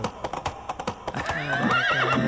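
A horse's hooves clip-clop in quick, regular beats, then a loud, wavering whinny rises and trembles over them. The sound is clear, with no one speaking.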